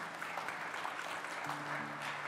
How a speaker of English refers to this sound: you give a round of applause.